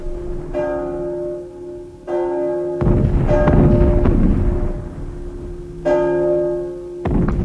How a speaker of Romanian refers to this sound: De îndată ce sosește un străin, se trage un clopot și uneori și câteva salve cu un tun mic.